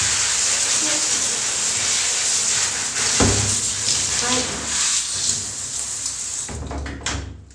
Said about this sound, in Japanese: ちょっとシャワーだけ流します。